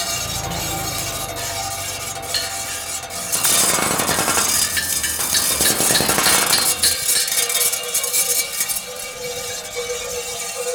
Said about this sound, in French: Les engins, dans un bruit d'enfer, continuent leur marche.